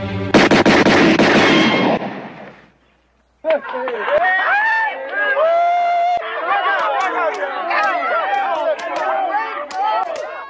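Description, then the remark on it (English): A loud burst of rapid gunshots fires off in quick succession and rings out, then a brief silence before a crowd breaks into excited chatter and murmuring. “He can't even hold a gun, much less shoot it.”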